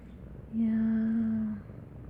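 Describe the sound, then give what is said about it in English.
A male domestic cat purring, one steady, even burst lasting about a second, rising suddenly and fading out against a quiet background. “Such a good cat.”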